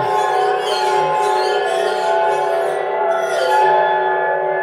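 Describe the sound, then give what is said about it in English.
Wet fingers circle wine glass rims, drawing out several overlapping, sustained ringing tones that hum steadily and loudly with a slight wavering shimmer, with no one speaking. “I've got like a bunch of wine glasses and I'm going to town on them, you know, with the rims, and you go do do do do do do.”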